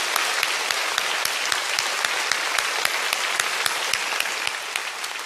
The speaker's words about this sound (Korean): 그리고 오늘같이 비오는 날 밖에서 비를 흠뻑 다 맞으면서 고생해 주신 우리 주차 봉사로 해주신 모든 분들과 교육자분들에게 큰 박수로 격려해 주시면 감사하겠습니다.